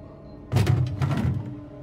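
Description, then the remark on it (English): Police officers breaking down the door to a small room: three or four heavy, booming thuds land in quick succession, loud, with a brief low rumble trailing off afterward and no voices. “When police officers break down the door to the little room, they are confronted by a dreadful scene.”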